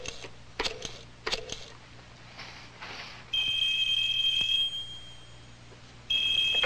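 A sock phone, called from a shoe phone, rings with a steady, high-pitched electronic trill for about three seconds, pauses briefly, then rings again. A few sharp clicks and knocks come before the ringing.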